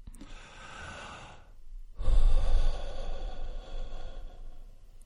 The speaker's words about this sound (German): Versuchen Sie das einfach einmal. Atmen Sie einmal ganz stark ein und dann sehr, sehr, sehr bewusst aus.